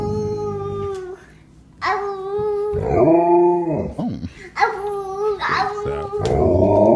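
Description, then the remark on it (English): An Alaskan Malamute's drawn-out, wavering howls and woo-woo vocalizations trade back and forth with the high-pitched babbling of a boy about 2 years old, loud, like a back-and-forth conversation. “And Mike, we close with a young boy. He looks about to be 2 years old, having a conversation with his Alaskan Malamute.”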